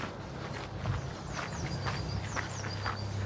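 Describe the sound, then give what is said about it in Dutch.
Steady footsteps cross a small bridge walkway over the doors of a canal lock, about two steps a second, clear, with faint birds chirping high above and a low constant rumble underneath. “Ja, dat zijn dus de deuren van de sluis waar we in principe overheen kunnen lopen.”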